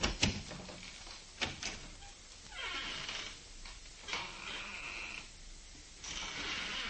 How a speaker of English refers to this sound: Let me show you. I'll step outside the office and close the door and then open it again.